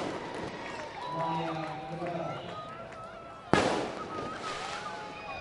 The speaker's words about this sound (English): I believe there are fireworks going on outside the ballpark. I just heard a pop fizzle sound.